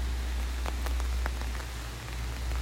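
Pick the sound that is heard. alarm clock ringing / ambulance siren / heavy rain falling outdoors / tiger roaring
heavy rain falling outdoors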